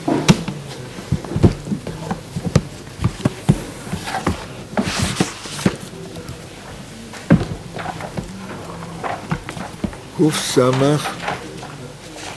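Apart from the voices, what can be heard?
door opening or closing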